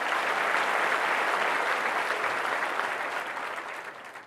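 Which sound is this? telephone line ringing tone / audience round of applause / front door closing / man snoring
audience round of applause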